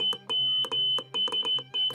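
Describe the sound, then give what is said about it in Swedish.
A steady, high-pitched electronic tone keyed on and off in short and longer bursts, like a telegraph sounding Morse code, with brief clicks at each break and no one talking. “Men telegrafoperatörerna insåg fort att de kunde avläsa meddelandet bara genom att lyssna på pipandet från telegrafen.”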